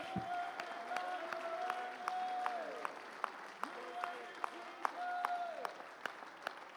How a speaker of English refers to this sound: Clap your hands, lift your voice, give God.